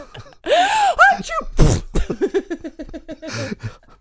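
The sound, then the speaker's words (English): Loud: a wavering, gasping build-up breaks into a sharp sneeze, immediately followed by a rapid sputtering run of fart-like pulses that slows and fades, with a final wheezy burst. “It's when you fart and sneeze at the same time.”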